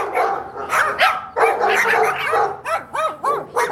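A dog barks repeatedly and excitedly, close and loud, with dense overlapping barks at first, then sharper, high-pitched yelping barks in quick succession. No one speaks.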